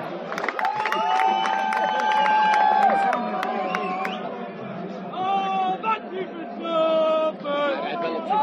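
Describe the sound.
A large crowd cheers and applauds steadily, with shrill whistles and raised voices rising above a dense, continuous roar of clapping and chatter.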